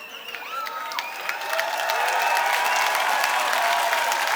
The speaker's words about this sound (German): Noch nie hat jemand für so viel Scheiße labern Applaus bekommen. Es muss jetzt das lauteste überhaupt werden.